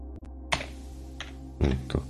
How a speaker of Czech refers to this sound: To nevím. Něco jsem tady zmačkl a něco se mi tady děje s klávesnicí, tak prdím na to.